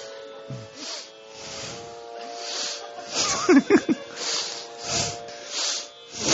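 Rapid, deep breathing in a steady rhythm during a breathing exercise, with forceful hissing breaths about every second, fairly loud over a faint constant hum. A brief vocal grunt cuts in midway.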